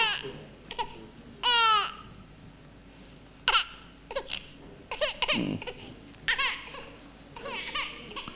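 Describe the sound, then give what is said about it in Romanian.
A small child babbles and cries in short, warbling bursts that echo through a church, with brief pauses between outbursts and a faint background hum. “La noi în biserică trebuie să vă obișnuiți cu asta. Că avem așa de mulți copii mici încât abia aștept să dau mai departe ștafeta.”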